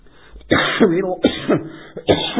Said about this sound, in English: I put a cough drop in. It's doing exactly what it's supposed to. I'm coughing.